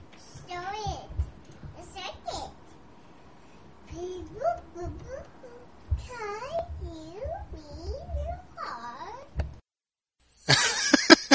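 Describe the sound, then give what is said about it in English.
A string of high, swooping meow-like cries, fairly loud, rising and falling in pitch, followed after a brief pause by a short burst of harsh hissing noise, presented as a spaceship's engines modified to go meow as the ship travels through space. “And a little note I forgot to mention, the Game Master and one of the other players decided that my ship engines were modified so that when it goes through space it goes meow.”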